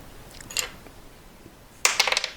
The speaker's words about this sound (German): Ich nehme einen Würfel. Ich werfe ihn aus der Hand. Der landet mit einer 7, bis ich treffe, ne?